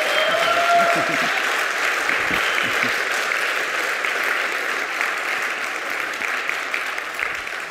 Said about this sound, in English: You're welcome to clap. You all wanted to. I felt it.